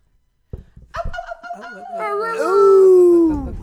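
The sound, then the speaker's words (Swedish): A human voice imitates cackling poultry, with a few short clucking bursts followed by a loud, drawn-out crowing call that slides downward, clear with no other sounds. “Ja, egentligen ska vi vänta, egentligen ska vi faktiskt kackla idag. Kackla.”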